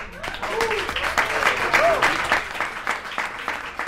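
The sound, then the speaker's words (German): Dense audience applause for a band at their book and record premiere, with rapid overlapping claps, steady and fairly loud throughout, with a few faint voices and whistles rising above the clapping. “Applaus für die in die Jahre gekommenen Paten der deutschen Indie-Pop-Musik.”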